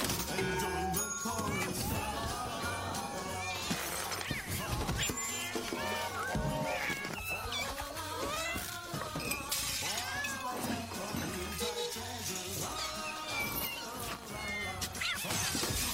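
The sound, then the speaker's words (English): A cat smashes glass Christmas ornaments: repeated loud shattering and crashing of glass, with cat meows mixed in amid a busy, cluttered background and some talk. “Christmas time again, and for all you cat people out there, I hope you're ready for Ultimate Destruction! All that wonderful time put into your decorations. Goodbye.”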